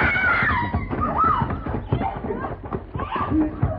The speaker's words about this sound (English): What was that? Oh, sound like a lady scream, Mr. Paladin.